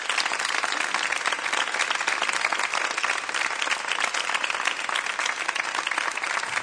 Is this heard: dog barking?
no